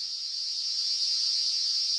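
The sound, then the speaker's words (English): An Eastern Double Drummer cicada, Australia's largest cicada at about 5 centimetres body length, drones in a continuous, piercing metallic whine, steady and loud throughout with no breaks, like an electric saw held on one high pitch. “The Eastern Double Drummer is Australia's largest cicada, about 5 centimetres or a bit over that in body length.”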